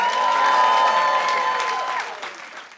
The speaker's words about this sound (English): Let's get a round of applause as we go to commercial break.